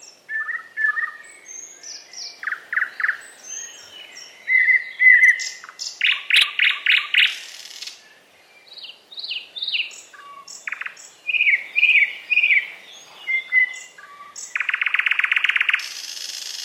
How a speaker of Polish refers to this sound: Gdyby nie śpiew, równie trudno byłoby je odróżnić, ponieważ z wyglądu są do siebie niemal bliźniaczo podobne. W tym przypadku słuch jest więc bardziej przydatny niż wzrok. Warto posłuchać zatem jeszcze słowika szarego.